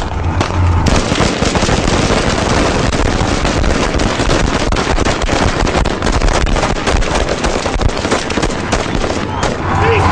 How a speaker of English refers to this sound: The police had first used water cannon and tear gas to try to break up the crowds. But then, with miners apparently armed with machetes approaching them, a barrage of gunfire.